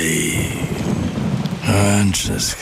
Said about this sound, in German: Ja. Regen. Ewig grau. Müssen Sie sich das anhören?